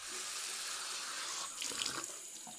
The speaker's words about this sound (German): ins Badezimmer und trank Wasser aus dem Hahn.